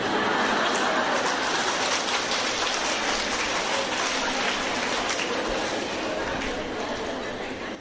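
A large audience breaks into loud, sustained applause, a dense crackle of many hands clapping at once that holds steady for several seconds before easing slightly at the end.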